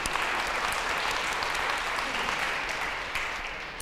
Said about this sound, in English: And so congratulations on your graduation as well. You can clap.